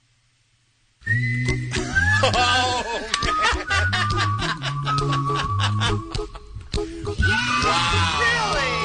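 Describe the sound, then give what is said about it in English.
A man's mobile phone ringtone plays loudly during a maze run after a second of silence: a warbling, bleat-like melodic tune of wavering sustained notes that runs continuously to the end, with a brief spoken exclamation. “And his phone rang and he pulled it out and this is what I heard.”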